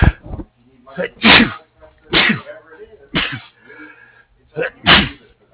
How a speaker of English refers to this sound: Excuse me, I had a sneeze attack.